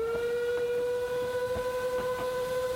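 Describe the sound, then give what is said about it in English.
A commuter train rolls past, its whistle holding one steady, sustained tone over a rhythmic clatter of wheels on track, loud, with no voices. “you know, riding in on this horse, and then immediately a commuter train goes past you.”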